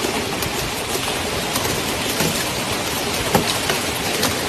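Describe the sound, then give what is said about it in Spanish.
Heavy rain pours down in a steady, dense roar, with scattered louder spatters and drips breaking through the constant hiss of a torrential downpour. “Son lluvias torrenciales que hacen caer una gran cantidad de agua en muy poco tiempo, provocando desbordamientos de ríos y llenando cauces que normalmente suelen estar secos.”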